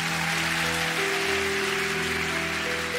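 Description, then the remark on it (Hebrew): Steady, dense audience applause for an orchestra of musicians fills the whole three seconds, a loud continuous wash of clapping with a faint sustained hum running underneath and no voices. “ומשם הגיע החיבור הנפלא הזה, יחד עם התזמורת הנפלאה הזאת של המנגנים, שמגיע לה הרבה הרבה מחיאות כפיים.”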